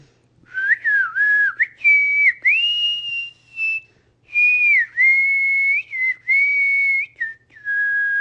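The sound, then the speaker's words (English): A single person whistles the church hymn How Great Thou Art in St. Lawrence Island Yupik, Alaska, slow and clear, with the pure tone broken into syllable-like phrases and short pauses, whistling the words rather than just the tune. No one speaks. “For example, both cousins can whistle church hymns, not just the tune, but the words as well.”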